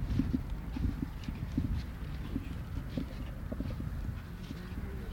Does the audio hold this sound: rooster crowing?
no